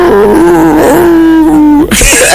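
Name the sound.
dog vocalizing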